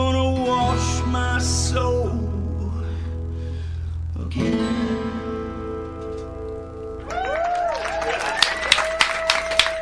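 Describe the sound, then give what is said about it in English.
A live band plays in a studio to the close of a song, then the studio crowd's applause swells in near the end, scattered claps and cheers mixing with the lingering instruments. “You know, if people, listeners didn't hear the crowd here, I think they would assume we were playing records.”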